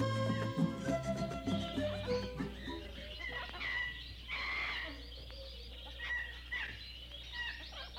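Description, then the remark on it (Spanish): A dense outdoor chorus of many wild birds calling and chirping at once, overlapping tweets and whistles layered over a steady low hum, lively throughout. “Mira la cantidad de pájaros que hay.”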